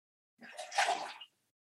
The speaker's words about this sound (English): I'm just going to take a drink of water, so we may want to edit this